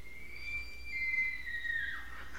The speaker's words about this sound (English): That's the elk.